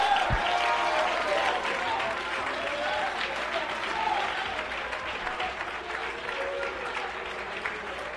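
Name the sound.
audience clapping and applauding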